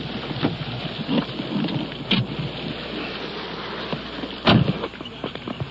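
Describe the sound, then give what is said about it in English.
Heavy rain pours down steadily outdoors over a parking lot, a dense continuous hiss and patter, with a couple of louder thumping bursts breaking through the downpour. “Rain is coming down now. It's beating down pretty hard as we're crossing this parking lot.”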